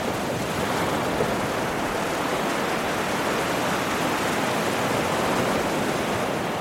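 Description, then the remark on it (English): A steady, broad roar of ocean surf crashing against the shore at the city of San Luis, fairly loud and continuous with no distinct individual breakers, and no voices. “He looks out at the crashing waves and says, it could even be tonight.”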